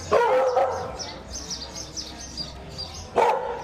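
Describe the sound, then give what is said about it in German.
A dog barks loudly, one sharp bark at the start and another near the end, while small birds chirp steadily in the background of an outdoor scene in the town of Trinidad, between the Caribbean Sea and the Sierra del Escambray, where residents walk their dogs. “Die Trinitarios, die mit ihrem Hund Gassi gehen oder ihren Vogel ausführen.”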